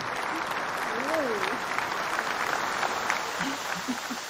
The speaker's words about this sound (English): Round of applause. What, that was a weird sound at the end. Yeah. I press the same button I always press.